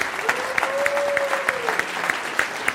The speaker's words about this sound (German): Und nochmal kräftigen Applaus.